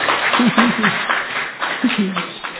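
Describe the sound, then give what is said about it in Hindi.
A crowd claps for two people in a dense, steady patter of overlapping hand claps, with voices talking and murmuring underneath throughout. “हाँ भाई, इनके लिए, दोनों के लिए ताली तो बजाओ।”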